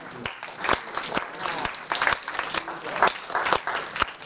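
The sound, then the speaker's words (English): A parish audience applauds a man who has just finished his course to become a spiritual director. It breaks into steady applause for about four seconds: a dense patter of many hands with sharper individual claps popping out, and faint voices murmuring underneath. “And I'd like to applaud him.”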